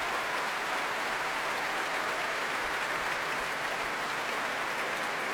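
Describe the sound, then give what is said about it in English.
A large crowd at the Proms applauds pianist Manny Axe for an encore, a dense, continuous wash of clapping that fills the arena without pause, sustained and enthusiastic, calling him back to the stage. “And the prom is very keen for Manny Axe to come back. And here he comes.”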